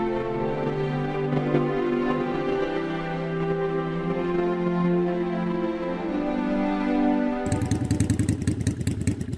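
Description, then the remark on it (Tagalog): A hired motorized tricycle carrying passengers and their suitcases runs steadily with a low, buzzing drone and rattling harmonics, then shifts near the end into a rougher, pulsing idle with loud clattering chugs. “O, Nay, hanggang dito na lang po itong tricycle.”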